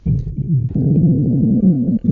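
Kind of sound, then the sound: human body sound, stomach rumbling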